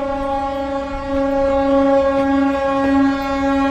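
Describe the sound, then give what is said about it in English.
A ship passing through the canal in Duluth, Minnesota sounds its horn in thanks to the bridge operator, one long, deep, steady blast that lasts the whole clip, growing a little louder partway through, with no talking. “Regardless of the size of the ship, many will sound their horn in thanks to the bridge operator, who will in turn sound the bridge horn back.”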